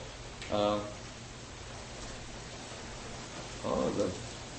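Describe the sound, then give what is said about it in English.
A steady, even hiss of wind and rain from an early monsoon shower in Gainesville fills the whole stretch at moderate loudness, with a low rumble underneath and two brief voiced bursts rising above it. “We have one new guest, the wind and rain of an early monsoon shower of Gainesville.”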